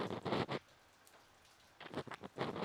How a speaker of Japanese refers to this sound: 雨の音、ちょうどいい BGM ですね。雨音って落ち着きませんか？無数に降り注ぐ優しい水。